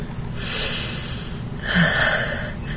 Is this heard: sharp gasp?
yes